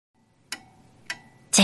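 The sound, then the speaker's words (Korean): A pendulum clock ticks three times at a steady pace, each sharp tick ringing briefly with a faint metallic tone; the final tick sounds louder than the first two. “째깍, 째깍. 다시 괴종식의 목소리가 커졌다. 시간이 지나가는 소리다.”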